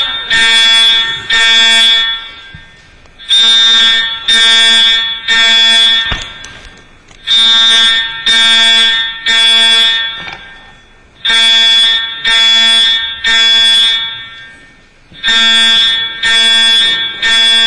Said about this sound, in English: Don't be alarmed. This is the first Wednesday of the month, and on the first Wednesday of the month at 11 o'clock, the alarms are tested.